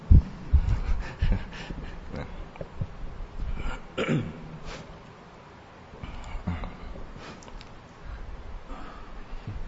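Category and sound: human body sound, throat clearing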